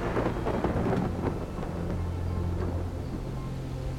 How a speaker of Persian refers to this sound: و بر آن فرشته چون ابرها را براند بانگ تندرها به گوش رسد و چون ابرها به تازیانه او به راه افتند آذرخش‌ها بدرخشند.